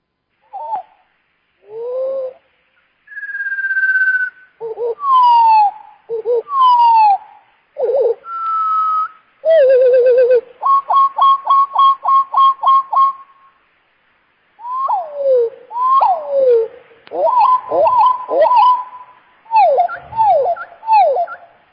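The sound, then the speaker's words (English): Birdsong played back slowed down: deep, drawn-out whistles and swooping glides, a steady run of evenly spaced repeated notes in the middle, then tumbling warbles. Clear, with no talking. “Check it out again at slow speed.”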